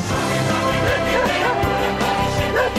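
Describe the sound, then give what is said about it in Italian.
Signora Maiolo's dog barks excitedly in quick, repeated bursts, loud, over a dense, busy background with no pause in the noise. “Ma qui è impazzito il cane della Maiolo, è una cosa pazzesca, cioè, altro che educato, altro che educato, qui è tutto basta.”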